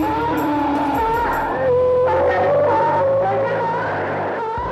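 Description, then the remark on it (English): An eerie U.S. Army 'wandering soul' propaganda recording, made in an echo chamber and broadcast from a helicopter over jungle in Vietnam: wavering, wailing tones drift and bend in pitch over a dense, steady low rumble, continuous and fairly loud, with no clear speech throughout. “But this wandering soul is very different. It was conceived in an echo chamber by the U.S. Army and is broadcast from a helicopter over jungle.”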